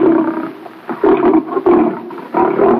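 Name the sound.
lion roaring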